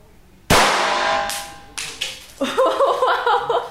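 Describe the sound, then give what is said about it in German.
A single loud, sharp gunshot fired on the command to fire at a gun shop cracks out and rings off in a long fading tail, followed by a couple of fainter snaps and then a burst of voices. “Alle Leute, die schießen hinter nachts.”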